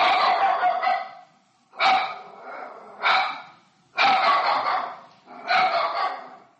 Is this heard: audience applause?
no